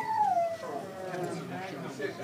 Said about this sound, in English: He still had them little quirks to him that a hound do, you know, bark.